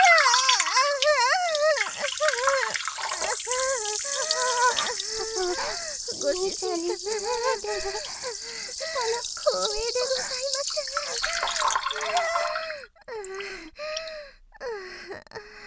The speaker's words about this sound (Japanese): おしっこ出ちゃう。おしっこ出ます。 おしっこ出ます。ご主人様、おしっこ出ちゃいます。おしっこ出ます。おしっこ出ます。おしっこ出ます。